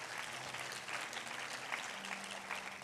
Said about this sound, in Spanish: todos los que sirven en la casa son de excelencia porque lo están haciendo para el Rey. Den un aplauso a los que sirven en la casa.